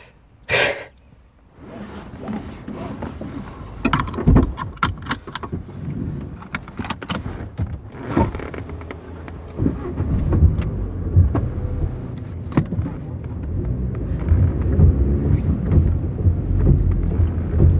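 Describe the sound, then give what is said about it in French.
A police car drives by, its low engine rumble building and lingering, with scattered knocks and rattles. There is no siren and no one speaks. “La voiture de la police.”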